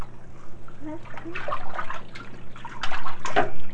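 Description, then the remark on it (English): Bathtub water draining away after a child's bath, with irregular gurgling and sloshing bursts over a steady low hum, growing a little louder toward the end. “Let's let the water out.”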